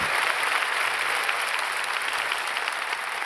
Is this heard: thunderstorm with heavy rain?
no